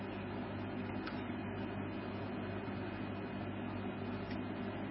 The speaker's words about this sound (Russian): Вот кондиционер это как ум. Он постоянно работает и шумит, видите?